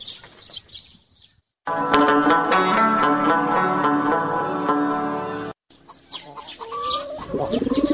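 A pigeon coos up close in a long, steady, throaty call, with a brief pause on either side and softer chirps and clucking from other birds nearby.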